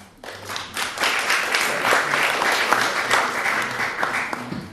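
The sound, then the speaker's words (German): Steady applause from an audience, many hands clapping in a dense, continuous patter that starts abruptly and holds at a fairly loud level throughout, with no speech over it. “Und ich denke, dafür haben Sie auch Applaus bekommen und auch verdient.”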